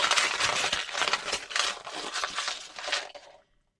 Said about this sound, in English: Crinkle up your paper.